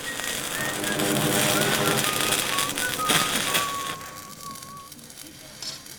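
Dense, steady crackling and sizzling of metal tube being welded to join panels, loud, with a thin wavering whistle running through it before the noise eases off near the end.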